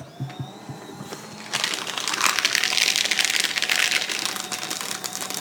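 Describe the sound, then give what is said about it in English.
A piece of paper crinkles and crackles loudly and continuously after a second or so of quieter taps, with a faint steady whirring hum running underneath throughout. “Yeah, it's hard because there's that little whirring sound, but then there's also the paper.”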